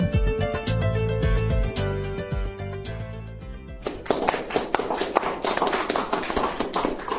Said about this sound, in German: Applaus, strahlende Gesichter allerseits, Feierstimmung.